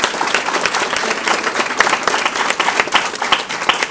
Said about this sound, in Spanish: Les pido el favor de que demos un fuerte aplauso para que las personas que están afuera entren, por favor.